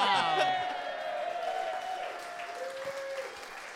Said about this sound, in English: The passengers applauded, much like that